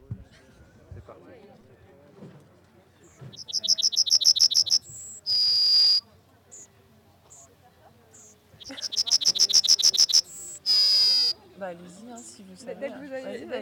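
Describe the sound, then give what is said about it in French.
An ortolan bunting sings two phrases, each a quick run of ringing high notes ending in a longer, steady whistled note, with soft voices murmuring underneath. “Oui, ben là, on entend le bruin, mais pas n'importe lequel. C'est ortolan. Le bruin ortolan.”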